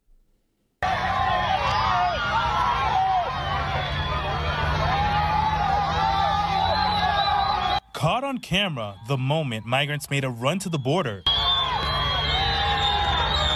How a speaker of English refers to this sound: You can hear people cheering, whistling, and celebrating that they can see their end goal in sight, El Paso. You can hear migrants chanting, "We are united," and one migrant telling the cameras, quote, "We're not doing anything to you," end quote.